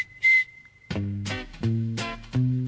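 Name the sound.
whistling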